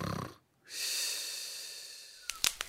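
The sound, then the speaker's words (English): A voice imitates a father's loud snoring: a rough, breathy inhale followed by a long, airy, rasping exhale that slowly fades, ending with a couple of short clicks. Fairly loud, no talking. “My dad snores very loud and keeps me awake.”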